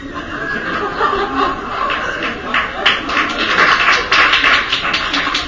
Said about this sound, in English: Thank you. I don't often get applause.